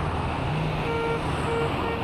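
Steady, dense roadway traffic rumbles and hisses continuously, with vehicles passing and faint higher tones drifting over the wash of engine noise. No one speaks.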